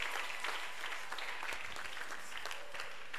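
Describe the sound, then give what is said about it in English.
Sparse, half-hearted applause from a crowd, a thin patter of scattered claps that never builds, steady but subdued for a few seconds with no one speaking. “Oh, why don't you put your hands together? Your clapping is very weak.”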